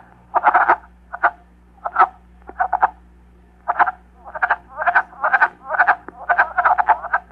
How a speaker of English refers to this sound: I have really enjoyed the male wood frogs singing in the little seasonal wetlands in my wooded backyard.